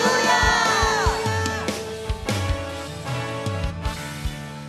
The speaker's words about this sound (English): Let's shout hallelujah. Hallelujah. Hallelujah. Hallelujah. Hallelujah.